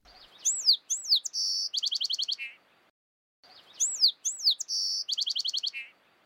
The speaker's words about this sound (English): those voices tend to be a little bit more trilly than the classic combination voice, quite frankly, of the song sparrow that incorporates pretty much everything into its vocal repertoire.